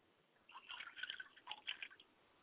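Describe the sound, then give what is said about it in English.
A small stream of water is poured out as a libation to the north, breaking into quick, irregular drips and light splatters for a second or two before fading to quiet. “And finally, I pour libations to the north.”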